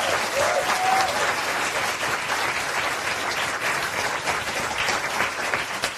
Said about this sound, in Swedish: Vår tredje paneldeltagare har svart bälte i nostalgi och är just nu aktuell med boken Högerhumor. Gott folk, ge en varm applåd till Kalle Lind!